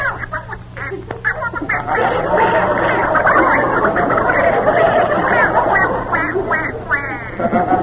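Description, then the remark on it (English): A cartoonish Donald Duck voice, refusing to go to sleep, squawks and quacks nonstop in garbled, excited bursts, loud, with a steady low hum underneath. “Jack, I'm having trouble with Donald Duck. He's got to start on a picture early tomorrow, and he refuses to go to sleep.”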